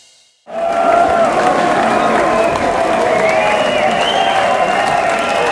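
Final applause and cheering from a large, sold-out crowd at the end of a metal concert at Huxleys, starting abruptly after a brief silence and holding steady and loud, with dense clapping, shouts and whistles blending into a continuous roar.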